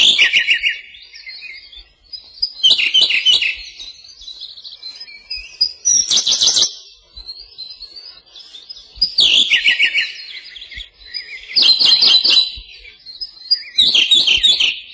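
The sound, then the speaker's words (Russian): A Siberian blue robin sings on a branch in the Ussuri taiga, repeating a bright, rapid trilled phrase about every two seconds, each phrase opening with sharp ticking notes, with no other sounds around. “На ветке красивая синяя птичка. Синий соловей.”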